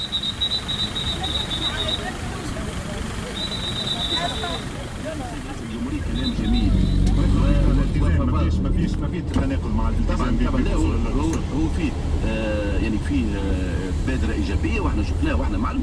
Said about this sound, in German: An der Kreuzung versucht ein Verkehrspolizist, Ordnung ins Chaos zu bringen, erfolglos.